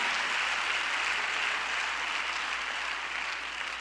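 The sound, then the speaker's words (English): A church audience claps continuously, a dense, steady wash of many hands applauding together that stays fairly loud throughout, with no voices standing out. They clap to give God praise and to show they are praying for those who have lost a child. “Everybody else, clap your hands and give God a praise and say, I'm praying for you.”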